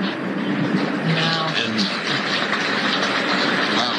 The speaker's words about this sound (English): His image is being shown on a monitor in, and that's why you hear people actually applauding now. They're applauding President Zelensky.